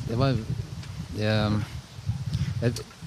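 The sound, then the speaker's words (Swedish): Low, blustery rumble of strong wind buffeting a microphone outdoors in windy weather, fairly steady and loud throughout, with voiced vocal sounds rising over it in short bursts. “Det var värst vad det blåser här.”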